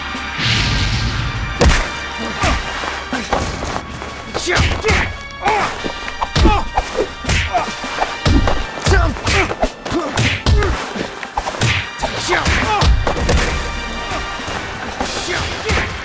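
Busy construction noise in a building under construction in Cairo: irregular, loud hammer blows and heavy wooden thuds and crashes follow one another closely over a constant low rumble, with no pause for the whole stretch.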